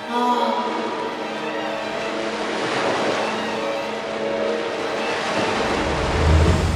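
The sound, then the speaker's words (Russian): A steady, rushing roar of sea surf fills the whole stretch, loud and continuous, with a faint droning hum running underneath and a low swell near the end. “Ступай-ка своей дорогой, волна.”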